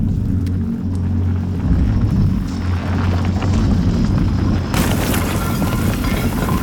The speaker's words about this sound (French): Dans une galerie, juste au-dessus du refuge, une petite explosion suivie d'une chute de pierre.